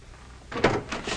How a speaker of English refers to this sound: Hearing another door, Werner disappears.